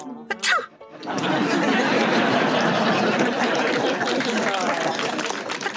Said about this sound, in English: Gesundheit! Gesundheit actually means help in German. Algo, why are you sneezing? I didn't even say yellow! I think I have a virus.